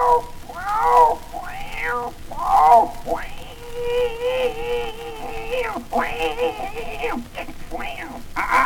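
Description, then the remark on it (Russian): A person imitates a cat, meowing over and over in rising and falling whines, including one long drawn-out yowl in the middle, loud with no other sounds around. “Да уралей ты, да это не птица, а попросту сказать кот альба кошка, вот.”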